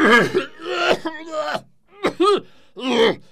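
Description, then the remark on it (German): A voice imitates a fit of coughing after taking several strong puffs on a freshly lit pipe stuffed with dried hay: several strained, throaty coughs and groans in uneven bursts with a short pause midway, fairly loud. “Dann steckte er sie an und tat einige kräftige Züge, wobei er husten musste.”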